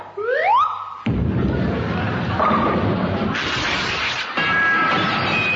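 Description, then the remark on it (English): Two quick rising whistle-like tones, then a sudden loud crash as a glass dance floor in a ballroom smashes, followed by several seconds of dense, continuous shattering and clattering debris, loud, with no talking. “Yeah, it was glass.”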